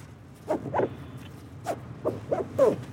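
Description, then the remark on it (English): Short rasping pulls of life jacket straps being cinched tight after a river safety review, before a canoe trip on a river. About half a dozen quick zips sound in an uneven rhythm over a quiet outdoor background. “Before we can go anywhere, we review river safety and each cinch up a life jacket.”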